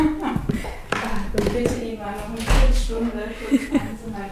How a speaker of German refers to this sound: Über mir klopft gerade mein Nachbar. Ich gehe einmal ganz kurz zu meinem Nachbarn.